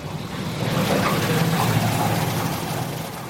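Water gushes steadily into a 6,000-litre tanker truck as a driver fills it, a continuous rushing pour over a low mechanical hum from an engine or pump, fairly loud, with no talking.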